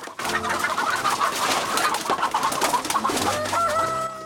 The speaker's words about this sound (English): Outside in the grounds, thieves break into the poultry house. Chickens flap about in a panic.